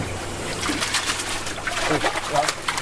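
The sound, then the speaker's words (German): A fish just taken out of an experimental flume at TU Dresden for fish tests flaps and splashes water in quick, irregular bursts over a steady wet background hiss, with a faint voice murmuring underneath. “Spritzt ein bisschen.”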